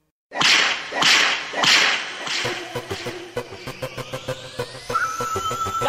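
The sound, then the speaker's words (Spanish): A reggaeton track opens with three loud, sharp whip cracks, then a steady percussive beat kicks in under a rising synth tone, building up without any vocals yet. “una canción o una producción musical muy importante del reggaetón y que es un emblema para este género”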